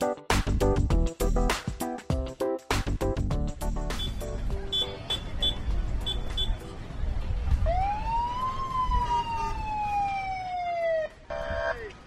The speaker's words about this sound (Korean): 네, 여기저기서 울리는 여기저기서 울리는 사이렌 소리. 제가 지금 나와 있는 이곳은 페어팩스 카운티에 있는 첸틀리 도서관입니다.